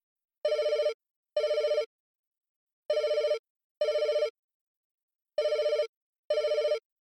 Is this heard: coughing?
no